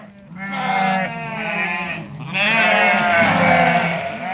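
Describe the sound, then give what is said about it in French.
Landes de Bretagne sheep, a Breton breed raised outdoors on a farm at the foot of the Ménézom at Dinéol, Brittany, France, bleating loudly: two long, wavering, quavering calls, the second following a brief pause, with no talking. “Aujourd'hui, on va vous présenter les particularités du mouton des Landes de Bretagne.”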